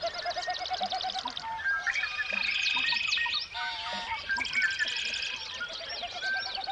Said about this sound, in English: Tomorrow, the first Sunday of May, is International Dawn Chorus Day, a day to appreciate the beauty of birds' dawn songs. Each morning, right as the sun begins to rise, birds sing forth in a symphony of song.